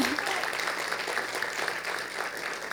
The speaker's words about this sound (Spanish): Si van a aplaudir, pueden hacerlo bien.